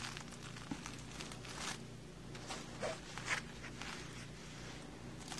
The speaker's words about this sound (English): What I usually do is I'll take a pin. This one is a little crooked, but that's okay. And I'll just pin the fabric down to this paper. It's kind of like wax paper.